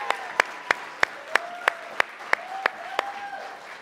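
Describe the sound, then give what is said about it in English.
Audience applause that settles into steady, rhythmic clapping in unison, about a dozen sharp evenly spaced claps over a continuous crowd murmur with faint cheering voices. “One more applause for these awesome people.”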